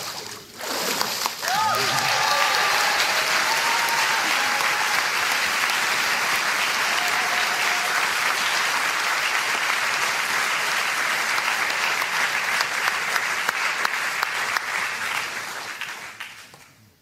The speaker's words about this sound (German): Und so taufe ich dich auf den Namen des Vaters, des Sohnes und des Heiligen Geistes. Applaus.